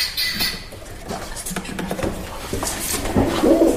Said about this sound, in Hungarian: Galamb.